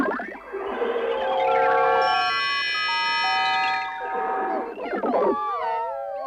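Early electronic music: layered sustained synthetic tones stacking into a dense, shimmering cluster, with gliding pitches and wavering warbles at the start and end, loud and without any voices.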